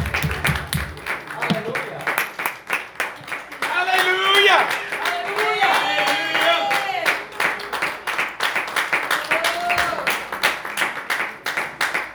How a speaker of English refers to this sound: Let's clap our hands one more time to Jesus.